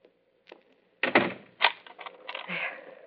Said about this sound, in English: Would you mind standing here until you hear me lock my door?